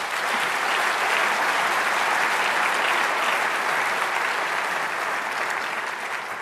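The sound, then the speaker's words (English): Sustained audience applause for the speakers at a convention, a dense, steady clatter of many hands clapping at once, loud and even throughout with no voices standing out. “first I wanted to say maybe it's good to give a round of applause for the speakers.”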